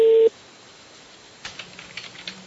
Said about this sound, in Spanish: Nos mandan a otro teléfono, que es este.